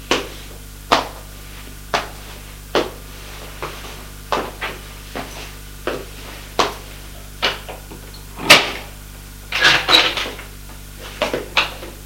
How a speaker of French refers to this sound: Elle a ouvert une porte.